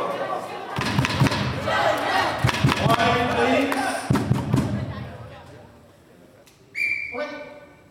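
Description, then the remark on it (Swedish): Two heavy thuds as a goalball shot is blocked and slammed down, echoing, with crowd murmur and voices, then a sharp referee whistle near the end; the save of the last shot in Sweden's 5-6 loss to China, their final group match at the goalball World Championship. “Sirmeti räddar matchens sista skott, men det slutar ändå med 5-6 förlust mot Kina i den sista gruppspelsmatchen.”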